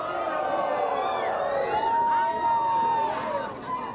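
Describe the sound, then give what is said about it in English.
A crowd of thousands gathered outside Shuhada Mosque in Aceh to watch a public caning shouts insults and cheers, many overlapping voices rising and falling in a loud, continuous roar with occasional higher whoops standing out, unbroken throughout. “Outside Shuhada Mosque, Aceh, thousands of people have gathered to watch. They're shouting insults and cheering.”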